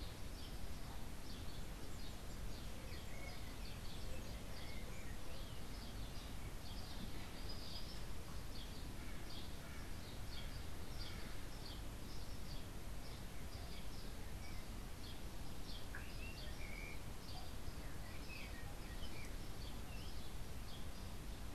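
Birds chirp and twitter outdoors in a steady stream of short, high, soft calls over a constant low rumble of ambient noise. Nobody speaks.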